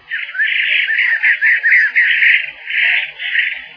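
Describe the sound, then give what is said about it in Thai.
A bird calls from a tree behind a marble bench, loudly and continuously for about four seconds, a shrill, warbling cry with quick wavering pitch and brief dips between phrases, with no voices present. “เสียงนกชนิดหนึ่งร้องดังขึ้นจากขึ้นไม้หลังม้าหินอ่อนที่เรานั่ง”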